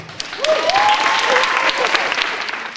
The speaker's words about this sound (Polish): Dzisiejszego dnia gościmy milionowego widza opery i Filharmonii Podlaskiej. Wielkie brawa!